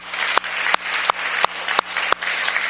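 An audience applauds steadily for a church council, a dense wash of clapping with sharper, louder claps cutting through at a regular beat. No one speaks over it.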